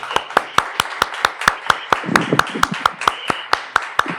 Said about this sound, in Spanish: Para él, un aplauso.